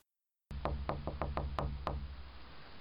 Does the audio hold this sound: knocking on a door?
yes